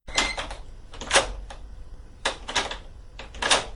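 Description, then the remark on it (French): A few sharp mechanical clunks and rattling clicks come in separate bursts as a lever is worked to move a lock bolt and a door opens, with no voices. “Il écoute la réponse, replace le tube à sa place et fait agir le levier qui met en mouvement le verrou.”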